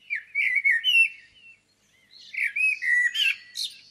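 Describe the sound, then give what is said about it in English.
A blackbird sings two clear, fluting phrases separated by a short pause, each rich warble ending in a higher, squeaky twitter. The song is fairly loud, with no voices. “Number 1 on Mark's list is the blackbird, my favourite bird overall because I love the Latin name, turdus.”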